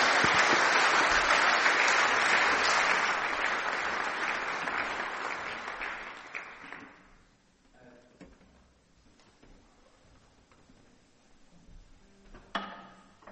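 An audience claps steadily in a dense, loud burst for about seven seconds, then the applause fades away, leaving a quiet room with a few scattered knocks and shuffles.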